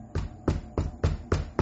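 Five firm knocks on a door at 4 a.m. in a steady, fairly quick rhythm, each a solid thud that stands alone with no voices.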